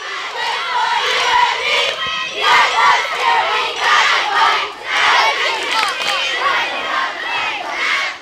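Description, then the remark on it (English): A group of girls cheers and shouts together in high, overlapping voices, loud and continuous with rhythmic surges and brief dips, like a chant or rally cry. “But some of the girls, the older girls, are having a hard time cheering.”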